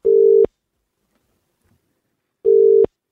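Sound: telephone number being dialed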